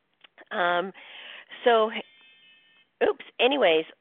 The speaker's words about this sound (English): So that was my little alarm going off on my smartphone.